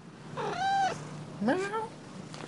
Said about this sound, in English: there's a lot of cats make a lot of sounds, so a lot of people were recording the sounds of their cats, like this person from Missouri.